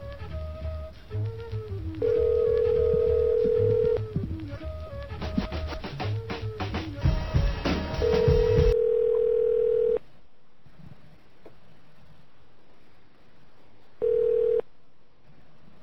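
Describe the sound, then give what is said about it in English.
A phone call being placed to IDNet: a steady telephone tone sounds in long pulses over a busy, hissy line, with a flurry of quick dialing beeps in the middle. After a pause, one last short tone comes through. “I got to call this number.”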